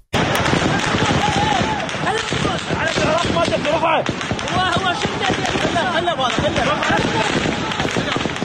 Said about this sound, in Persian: نیروهای امنیتی در نهایت با تیراندازی هوایی توانستند معترضان را وادار به عقب نشینی کنند.